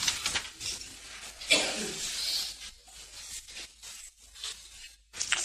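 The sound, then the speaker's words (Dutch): A Bible page is turned to 2 Samuel 1, with a soft papery rustle and a brief swishing sweep in the middle, followed by a few quieter crinkles and shuffles. “In 2 Samuel 1 vervolgens, dus net een bladzij omslaan zie ik.”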